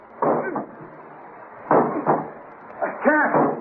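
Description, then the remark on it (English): Three heavy, evenly spaced thuds against a jammed metal cabin door on a sinking ship, each paired with a strained grunt of effort, as someone repeatedly throws their weight against it trying to break it down. The blows are fairly loud. “The door. I can't open it. It's jammed. Try breaking it down.”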